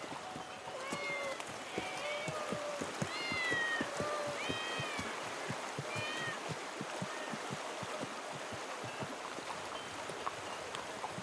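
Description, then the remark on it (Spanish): Several cats meow repeatedly in overlapping, rising and falling cries, clustered in the first half, over a steady busy background of clatter and rustling that continues after the meows thin out. “¿Y qué hacen tantos gatos aquí?”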